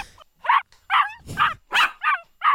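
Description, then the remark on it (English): A dog gives a series of short, high whimpering yelps and barks, about six in quick succession with brief gaps, each rising and falling in pitch, sounding sad and pleading, with no talking. “Sounds like a sad dog wanting to be bought at the pet store or something.”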